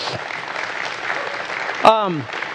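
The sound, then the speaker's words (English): An audience claps steadily as a clap offering for a man who gave his heart to the Lord, a dense wash of hands from many people, with one voice letting out a short falling whoop near the end. “I mean, thank God for one. That's worthy of a clap offering.”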